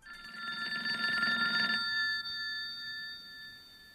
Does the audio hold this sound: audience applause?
no